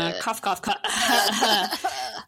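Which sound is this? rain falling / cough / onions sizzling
cough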